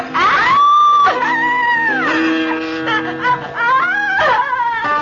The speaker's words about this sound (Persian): اون از صدای گریه زنش بیدار شد.